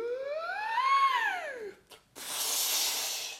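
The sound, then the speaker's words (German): A match is struck with a short scratchy burst, then, held head upward, it is blown out with a long, steady breath of air. A smooth rising-and-falling tonal wail comes just before the strike. “Also jetzt ganz schnell Ritsch machen. Es brennt. Zündholz mit Kopf nach oben halten und blasen.”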